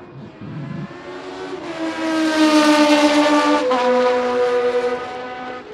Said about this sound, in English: It's not supposed to be a race, it's just a demonstration, but really the cars are fighting each other for track position. They're just coming round the corners again, coming into the pit straight.